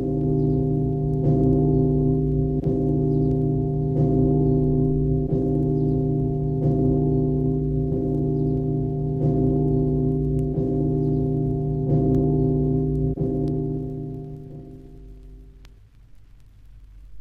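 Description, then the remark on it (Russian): The largest church bell, cast in 1688 by Rostov master Flor Terentyev and weighing 2000 poods, tolls in a steady rhythm, struck about every second and a half, its deep, velvety hum and rich overtones sustaining loudly before slowly dying away at the end. “Звук этого колокола узнавали за 20 километров от города.”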